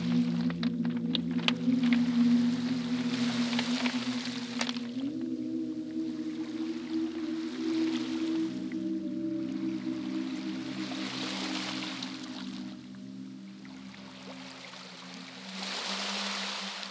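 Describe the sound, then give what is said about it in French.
A boat chugs steadily through the water, its low engine drone continuous beneath rhythmic swells of water washing past every few seconds, with no voices. “Pendant la traversée, le bateau se fait attaquer par des pirates.”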